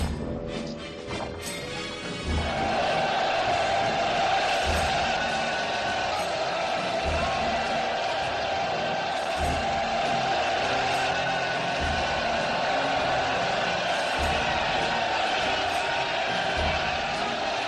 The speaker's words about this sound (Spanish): es que los 8.000 figurantes, en lugar de insultarla y abuchearla, lo que hicieron fue no seguir el guión y gritar Cleopatra, Cleopatra, sino que hubo que repetir la toma